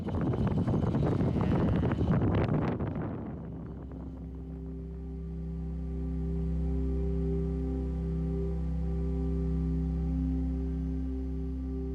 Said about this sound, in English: And then there's this wild video from Abbotsford of community members using a hovercraft and a jet ski to help farmers pull their cows through floodwaters.